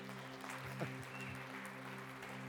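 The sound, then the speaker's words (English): A church audience claps nervously in a steady, dense patter, with a faint electrical hum underneath and a brief vocal sound partway through. “Some of you are nervously clapping.”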